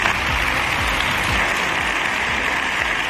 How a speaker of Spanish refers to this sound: Y entre aplausos, sus diputados se han marchado.